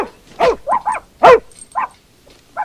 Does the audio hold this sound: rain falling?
no